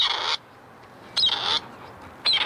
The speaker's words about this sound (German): Ohne den abgespielten Ruf wäre die Suche kaum machbar, denn sehen kann man die Rebhühner bei der Dunkelheit nicht.